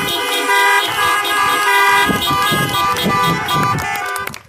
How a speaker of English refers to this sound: So let's just show some appreciation. Honk your horns or clap your hands.